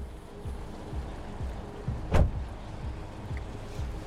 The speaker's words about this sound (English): He pulls on the handbrake and takes off his seatbelt. He gets out and takes a few steps away from the car.